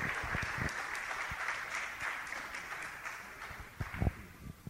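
Steady audience applause fills the scene, a dense wash of many hands clapping at moderate volume, with a few sharper individual claps standing out near the end as it thins.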